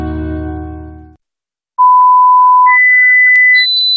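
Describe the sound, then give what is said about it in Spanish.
A low, buzzy electronic tone cuts off, then after a short silence three loud, steady electronic beeps follow, each longer tone stepping higher in pitch than the last; these are Sonofim beeps from Pharma OTC. “Pitidos Sonofim.”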